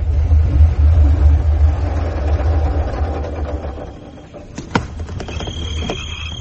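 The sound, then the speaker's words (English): A car engine idles with a steady low rumble, then a sharp knock and faint metallic scrape cut in near the end while the motor keeps running. “Oh, the car's too wide. You won't get past the fence.”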